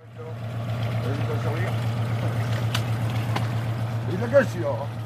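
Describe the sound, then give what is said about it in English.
Harbour ambience at a town port near Cherbourg, France, where several fishing boats are moored: a steady low engine hum runs throughout beneath lapping, splashing water, with faint indistinct voices in the background and one brief sharper knock near the end. “Several fishing boats were moored at the town's port, and the fishermen here said they were worried.”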